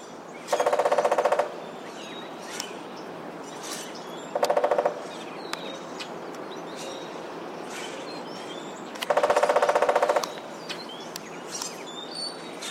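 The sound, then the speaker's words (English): Three bursts of rapid, ringing drumming as a woodpecker hammers on hollow metal, each roll lasting about a second, with birds chirping faintly in the background between them. “woodpeckers land up on a house on a weather vane or something metal that's nice and hollow and makes a big ring”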